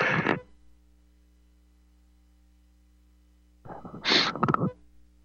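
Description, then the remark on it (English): A single sharp sneeze bursts out near the end after a long quiet stretch, with a brief breathy sound at the very start and a faint steady hum underneath. “Excuse me, I had to sneeze there.”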